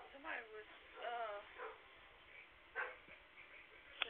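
dog barking

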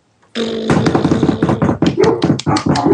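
dog barking

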